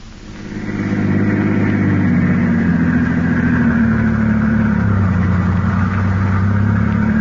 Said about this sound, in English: The two men are now driving in Garrett's car with Peters, alias Harry Gordon, at the wheel.